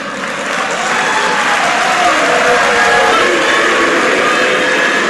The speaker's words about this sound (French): Ces bruits proviennent des militants des partis politiques et parfois des étudiants, soit pour applaudir certains panélistes favorables à leur opinion, soit pour conspuer les magistrats syndicalistes qui rappellent leurs revendications